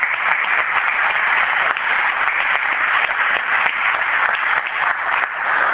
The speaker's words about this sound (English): I think they deserve a round of applause as well.